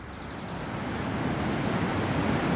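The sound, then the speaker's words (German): A steady rushing roar of wind builds slightly over a few seconds, broad and full like gusts sweeping through open air, with no voices present. “Der Wind kommt.”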